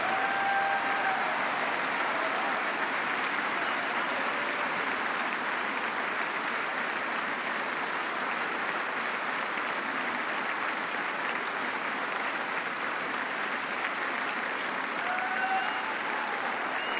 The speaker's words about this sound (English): And members of both parties rising from their seats with that line from President Obama, the first applause line of the speech.